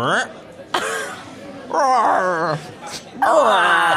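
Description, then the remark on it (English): A person imitates a frog said to croak with a Norfolk accent, making a few loud, drawn-out, throaty croaks whose pitch wobbles and rises, each starting with a rough, raspy burst. “So, real or no real, there's a breed of frog which croaks with a Norfolk accent. Can you please make that sound for me and Chris Stark?”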